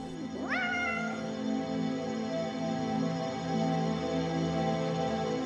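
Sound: cats meowing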